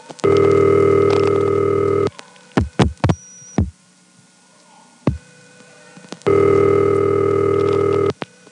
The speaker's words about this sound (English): Here, the ring is normal length and there's no 000 in the background, but after about 3 seconds of ring, the automatic number identification repeats.